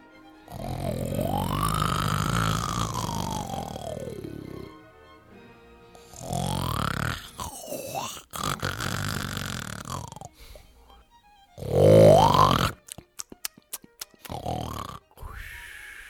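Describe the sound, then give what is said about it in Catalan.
Loud, deep, rumbling snores of an enormous giant sleeping in a chair roll out in several long drawn breaths with short pauses between, ending in a sharper snort and a few clicking sputters, unaccompanied by talk. “I en apropar-se, va veure assegut en una cadira a un gegant enorme que dormia fent uns roncs fantasmagòrics.”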